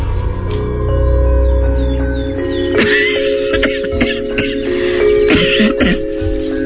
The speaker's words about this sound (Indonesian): Diperhatikannya asal suara itu, dan matanya tertuju pada perempuan tua yang tengah terbatuk-batuk sambil memegangi bagian lehernya.